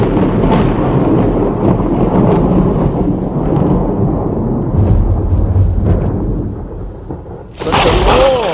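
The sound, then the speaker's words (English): Heavy, rolling thunder rumbles loudly and continuously, deep, then dips briefly before a sharp, bright crack near the end. “Thundered with a loud thunder against the Philistines and threw them into such a panic that they were routed before the Israelites.”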